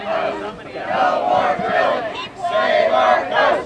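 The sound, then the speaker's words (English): A crowd of a couple hundred Bay Area protesters against offshore oil drilling chants "Save our coasts, no more drilling" in unison, loud rhythmic phrases rising and falling in repeated surges of many voices over a few seconds. “They chanted, "Save our coasts, no more drilling," and held up signs saying, "Spills kill, and big oil keep off our coast."”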